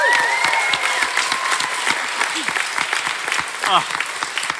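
An audience at the Brisbane Science Festival applauds Dr. Jessie Christensen steadily, dense clapping filling the whole stretch at an even loudness, with a few high whistles rising above it early on and again near the end.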